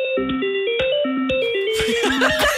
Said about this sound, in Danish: at du kan sætte os på ventemusik? Jeg elsker det.